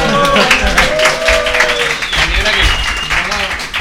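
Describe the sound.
An audience applauds: dense, steady clapping that stays loud for about four seconds, with a few voices calling out over it.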